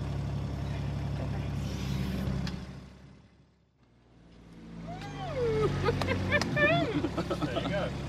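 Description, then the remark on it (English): A steady engine drone runs for a few seconds, then winds down and cuts out into near silence before a low rumble and bright, chirping whistles rise again. “When you just turn the engine off, I hated that.”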